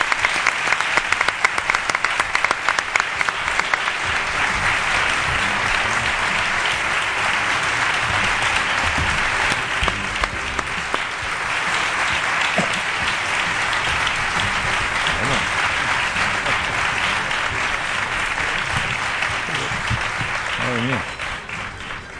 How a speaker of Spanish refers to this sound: Ovación de las de... De Curro. De las de Curro, ¿eh? Sí, totalmente. Ovación de las de Curro a don Juan Ignacio Zoido.